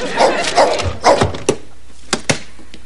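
A dog barks three times in quick succession, loud, followed by a few short, sharp knocks or thumps as it trails off.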